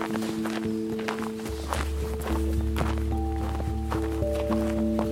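Steady crunching footsteps walk across a snowy landscape as the sun comes through, a regular rhythm of soft compressed crunches over a constant low hum and sustained tonal drone.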